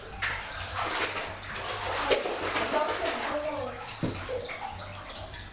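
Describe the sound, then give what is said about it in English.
Water sloshing and splashing in a bathtub as a child plays in the bath while having their hair shampooed, a steady wash of churning water broken by irregular sharper splashes. “No, in your hair, you're not bubbles in the bath.”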